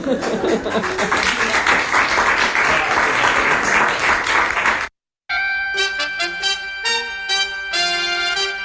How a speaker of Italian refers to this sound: Beh, uno scrosciare di applausi, sì. giustamente.